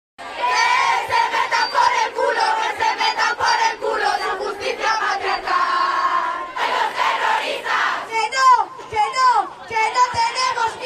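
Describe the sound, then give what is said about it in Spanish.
A large crowd of thousands of women protesters gathered at Puerta del Sol in Madrid, Spain, before marching to the Ministry of Justice, chants and shouts together in loud, rhythmic bursts, the massed voices sustained throughout, with higher, rising cries breaking out toward the end. “La más multitudinaria tuvo lugar en Madrid, donde miles de mujeres se concentraron en la emblemática Puerta del Sol para después marchar hasta el Ministerio de Justicia.”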